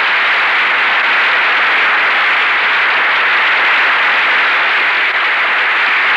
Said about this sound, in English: And here they are coming forward to acknowledge your applause, James Stewart and Marlene Dietrich.